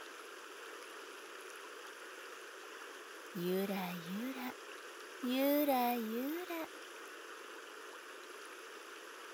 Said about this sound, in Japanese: 波に揺られて、船に揺られて、せせらぎの音が気持ちいいだろう。